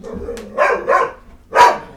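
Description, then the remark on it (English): A dog lets out three sharp barks: two quick ones close together, then a short pause and a third, louder bark. No one speaks over them. “You're being an asshole, dog. Shut up.”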